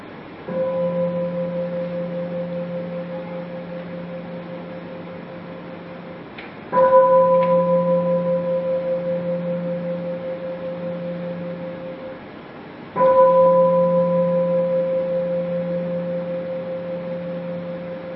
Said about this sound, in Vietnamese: Và mời quý vị nghe ba tiếng chuông.